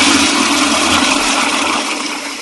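toilet flushing

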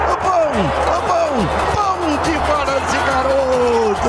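football crowd cheering

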